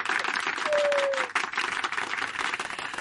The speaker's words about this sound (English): Just a selection of the many applause that'll be greeting us